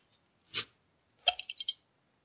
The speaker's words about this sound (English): I don't know if you heard that or not, but that was me opening a beer, and now I'm going to have a Wisconsin sip.